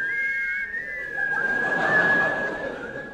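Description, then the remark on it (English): Someone whistles a tune, holding a long, slightly wavering high note over a swelling wash of background sound, with no talking. “They have agreed in conjunction with the NUR to play the theme music of... The Yeti!”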